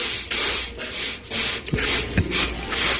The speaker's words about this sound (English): Sniffles, he says. No sniffles.